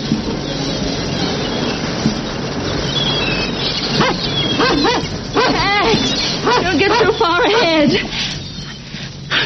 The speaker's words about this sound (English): I shall go for a walk with my ridiculous dog.